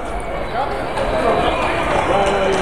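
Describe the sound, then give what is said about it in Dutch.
A loud, dense rumble of horses running past, their hoofbeats blurring into a continuous thunder that holds steady for a few seconds. “Nou, paarden komen erdoor.”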